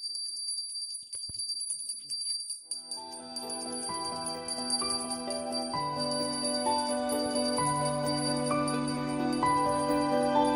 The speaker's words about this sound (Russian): С тех пор колокольного звона здесь больше никто не слышал, но в последнее время из храма все чаще раздается звон маленького колокольчика. У нас есть такой маленький колокольчик.